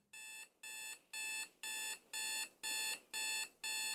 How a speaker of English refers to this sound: The alarm went off at 4 a.m. on a Tuesday.